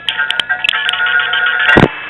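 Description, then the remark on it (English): Telephone line sounds as a call from New York City is routed through a gateway switching office to New Jersey: steady tones with several sharp clicks, then a heavier thump near the end. No one speaks. “a gateway office to New Jersey from New York City”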